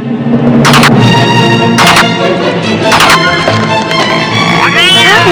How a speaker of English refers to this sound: Mom, don't let the cat in yet.